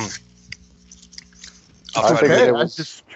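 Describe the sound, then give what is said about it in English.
Wet chewing sounds of someone eating fish and chips, with small crunchy bites and mouth noises, followed by a brief burst of a voice talking over the chewing. “I'll mute my mic when I'm having to chew.”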